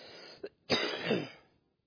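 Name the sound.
coughing and throat clearing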